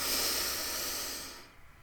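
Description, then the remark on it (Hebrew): A woman pauses and draws a single long, airy breath, steady for over a second before it cuts off into near silence. It is fairly quiet, with no talking. “אני שנייה עוצרת. אני לוקחת נשימה.”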